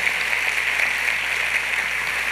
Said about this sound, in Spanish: Dale un aplauso fuerte, por favor.